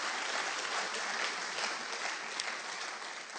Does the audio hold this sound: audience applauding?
yes